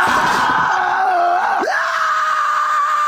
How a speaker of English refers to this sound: the scream I hear is my diet saying, no!